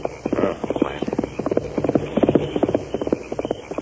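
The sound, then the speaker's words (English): Hoofbeats of a single horse, ridden in a hurry at night by banker Parsons toward Sagebrush, clip-clop along a trail in a quick, steady rhythm, clear, with no voices over them. “You hear that? One pony. Yes, coming this way along the trail.”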